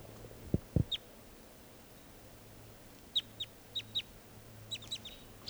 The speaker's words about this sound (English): Recording, the wild birds are still here, up in the trees near the net. This is one of them calling.